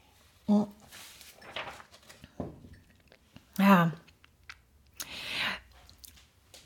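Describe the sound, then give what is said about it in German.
Someone takes a quick drink of water: a few short, wet sips and gulps with soft clicks between them, separated by quiet pauses, and a single word spoken briefly. “Ich brauche mal eben ganz kurz einen Schluck Wasser, Entschuldigung.”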